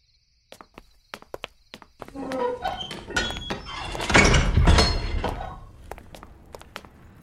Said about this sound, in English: Damn it. The door closed. And I can't get it open. Oh no. It feels like it's bolted shut somehow.